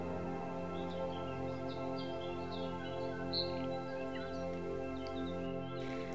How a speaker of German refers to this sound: Und beinahe augenblicklich befindest du dich zurück auf der sommerlichen Lichtung, umgeben von Vogelgezwitscher und warmem Grün.